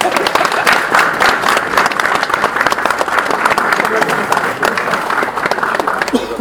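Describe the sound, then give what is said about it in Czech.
An audience applauds steadily at a ribbon-cutting ceremony opening the modernized Rokycany–Plzeň section, many hands clapping in a dense, continuous patter that stays loud throughout, with faint murmuring voices mixed underneath. “Děkujeme, to si jistě zaslouží potlesk.”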